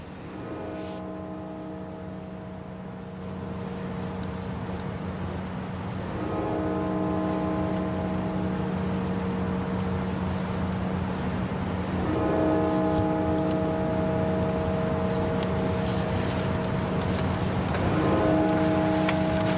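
Cathedral bells toll slowly at the funeral of Bush as his coffin stands at the cathedral door: four deep, rich strikes about six seconds apart, each ringing out long and overlapping the next, over a steady low hum. No one speaks.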